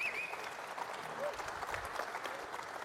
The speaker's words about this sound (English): Give them all a big round of applause.